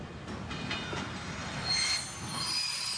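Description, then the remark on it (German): A train rumbles steadily through a station while its wheels let out thin, high-pitched metallic squeals that rise and fade, loud and close by, with no voices. “Das heißt, der Bahnhof muss in der Nähe sein und näher als wenn man schon direkt drin ist, geht ja eigentlich gar nicht.”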